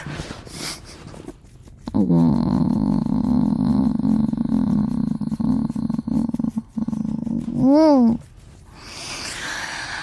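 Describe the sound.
A person imitates a cat's purr, holding a steady, loud, rumbling drone for several seconds before it breaks into a brief warbling vocal trill.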